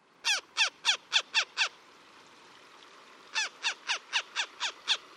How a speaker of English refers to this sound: Visit a marsh on a winter's day, and one of the first birds you're likely to see is the one making these sounds, a northern harrier. Teetering and gliding not far above the ground, this hawk scans the marsh grass for voles.